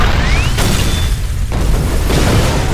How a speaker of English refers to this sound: The APC rocked violently from side to side from the concussions of the explosions as the dynamite charges in the coffee cans detonated slightly out of sequence.